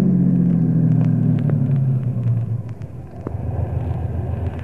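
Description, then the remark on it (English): A car engine hums steadily, then its low drone drops in pitch as the car, low on fuel, slows and pulls into a gas station, rolling to a stop and leaving a rougher idling rumble with a few light clicks. “Our gauge is a little low, Savetic. We'd better pull into this gas station.”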